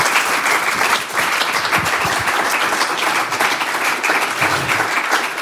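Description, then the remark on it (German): An audience claps steadily for a reader just before his reading at a reading stage, the dense patter of many hands holding at an even, fairly loud level for several seconds without a break. “dürfen Sie sich freuen auf seine Lesung und ich würde mich total freuen, wenn Sie ihm dazu noch mal so einen kleinen Applaus vorweg schwinden.”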